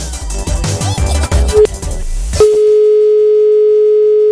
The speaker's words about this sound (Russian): У Светланы очень длинный гудок, вам не кажется? Это комплимент? Светлане. Да, хотя размер не имеет значения, но чем длиннее гудок, все-таки, наверное, тем чуть-чуть лучше.